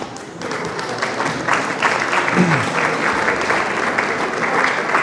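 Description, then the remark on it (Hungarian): Sustained audience applause as the audience applauds themselves after a group exercise, a dense, steady wash of many hands clapping that swells slightly after the first moment and holds at an even, fairly loud level throughout. “Most valójában magatokat tapsoljátok, mert én csak egy rezgést adtam át, hogy ez a rezgés ott legyen bennetek.”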